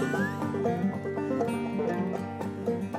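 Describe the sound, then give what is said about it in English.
A donkey brays loudly, a harsh, drawn-out call pulsing in rough repeated heaves for a few seconds, with no talking over it. “And when the rabbit heard that, the rabbit said, you call that a roar? Come back, everybody. Don't run away. It's only the silly donkey.”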